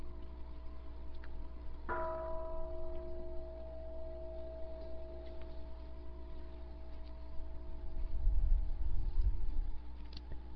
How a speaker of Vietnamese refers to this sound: Kính thưa đại chúng, khi mà thỉnh chuông á, nhịp một cái rồi thỉnh cho nó lớn.